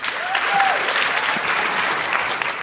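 Steady applause from women in a live audience who have been online dating, dense overlapping clapping at a fairly loud, even level for a few seconds, with a brief whistle rising above it early on.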